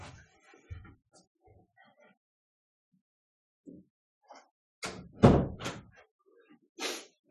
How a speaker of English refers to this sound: Forgot to shut the door.